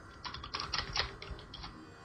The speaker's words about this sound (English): Typing away with your loud typewriter.